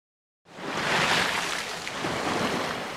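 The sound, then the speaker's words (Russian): After a brief silence, a steady rushing wash of water swells in, waves churning and splashing as a large motorboat passes along a river, raising a wave that washes onto the bank, loud and continuous with no voices. “По реке проехал большой катер. Поднялась волна, которая выбросила кораблик на берег.”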